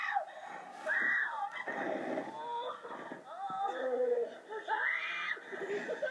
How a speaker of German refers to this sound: Jetzt ist der Junge wach und schreit noch lauter.